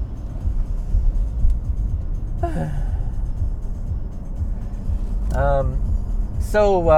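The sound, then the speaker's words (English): A steady low engine and road rumble of a car driving along a country road, continuous throughout, with a few brief sighing vocal sounds rising over it near the end. “Why do you have to drive down my country road?”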